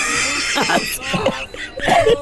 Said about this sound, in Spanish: Déjame toser. Señor, ¿está bien? ¿Se le atoró el pollo? Señor, ¿lo ayuda en algo? No era pollo, era gallo.